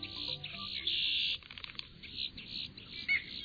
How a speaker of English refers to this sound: We're on a trail bordering a huge freshwater marsh near the Gulf Coast of Texas, and we're hearing the voices of boat-tailed grackles, red-winged blackbirds, least bitterns.